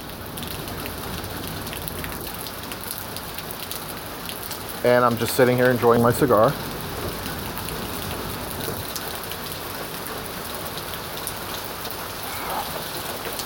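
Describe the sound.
Steady, heavy rain from a passing storm pours down throughout, a dense hiss of drops pattering on hard surfaces, with a man briefly speaking over it partway through.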